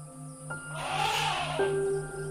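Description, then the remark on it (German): A group of seven elephants, four large adult females and three young calves, crosses the path, with a loud, breathy snort-like rush that swells and fades over about two seconds above a steady low drone. No one speaks. “Eine Gruppe von Elefanten kreuzt euren Weg.”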